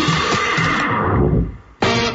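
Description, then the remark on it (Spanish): A horse whinnies loudly, its call sliding downward and fading before an abrupt cut to a different, fuller sound. “Un caballo puede sonar muy bien.”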